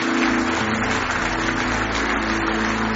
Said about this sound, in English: Give your resurrected Lord one more hand clap of praise this morning.